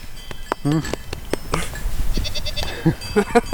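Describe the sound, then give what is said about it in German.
Several goats bleat in quick, overlapping calls, fairly loud, with harsh snorts and rustling between cries, while a voice talks faintly beneath them; goats on a farm where they are milked for cheese, heard down into the valley. “ins Tal hört man die Tiere stetig meckern und schnauben.”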